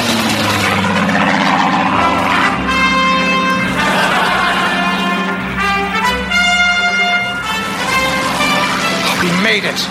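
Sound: airplane engine flying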